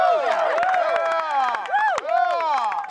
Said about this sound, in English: I like that Will is just cheering for everybody.